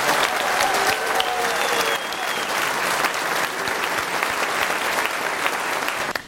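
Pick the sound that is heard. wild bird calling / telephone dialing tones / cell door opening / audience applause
audience applause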